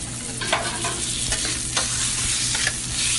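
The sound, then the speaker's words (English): Chicken fajitas with tomatoes, green peppers and onions sizzle steadily on a hot grill top, a continuous crackle with occasional sharper pops and scraping stirs, and no voices. “We are making our popular dish, one of our popular dishes is chicken fajitas, and we put it on our grill top, and it has tomatoes, green peppers, onions.”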